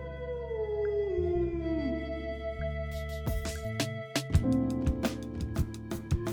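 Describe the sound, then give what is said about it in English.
A wolf lets out a long, mournful howl that slides downward in pitch, then gives way to a low droning background broken by sharp, irregular clicks and knocks. “This is taken from the common ancestor of the wolf and the dog.”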